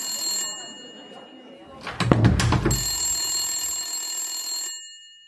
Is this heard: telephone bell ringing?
yes